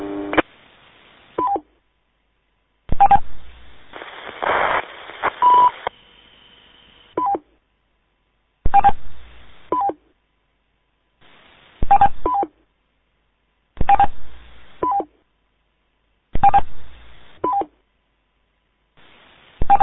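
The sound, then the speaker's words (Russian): Phone keypad beeps come in short, clipped bursts roughly every two to three seconds, separated by silence. One longer, noisier stretch sounds early on, and nobody talks. “Это, ну завязывайте пикать туда-сюда.”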